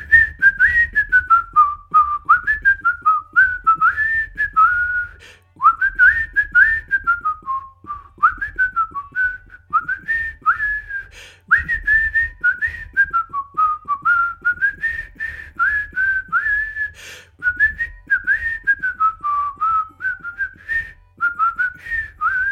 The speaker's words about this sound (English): I'm going to just look up that train music that's always going on. I'll have him whistle that.